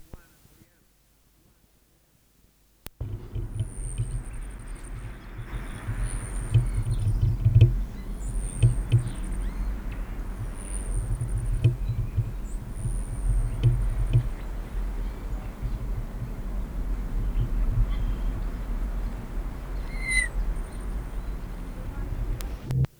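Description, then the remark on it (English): A Selasphorus hummingbird courtship display in a Nicotiana tomentosa patch in the South American area in Palo Alto, one of three displays by the same bird around 1 p.m., with a female as the object: thin, high-pitched buzzy whines repeating every second or two, fairly faint over a steady low rumble. “Same bird, three displays at 12 at 1 p.m.”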